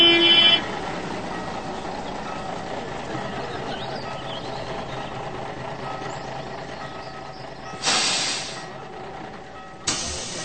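A steady engine drone fills the inside of a bus, opening with a few quick electronic beeps, then two sharp, loud bursts of air-brake hiss near the end, the first lasting longer.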